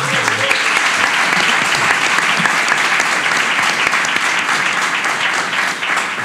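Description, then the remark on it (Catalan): An audience at a live event claps for the Assemblea La Saïda Comuna, a dense, even wash of many hands that stays loud throughout before tapering slightly at the end. “Per tant, un aplaudiment per aquesta assemblea.”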